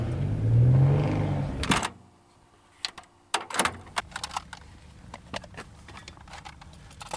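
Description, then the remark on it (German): Plastic cassettes clatter and knock together in a box, a loose run of sharp, irregular clicks and taps that follows a brief low rumbling hum at the start. “Was wir hören, sind Kassetten in einer Kassettenbox.”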